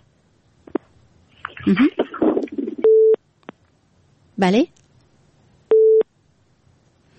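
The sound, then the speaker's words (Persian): A steady mid-pitched busy tone sounds in two short, loud beeps, each framed by clicks, after a listener's call to a radio program drops, following a brief stretch of speech and a burst of distorted line noise. “خب تماسشان قطع شد.”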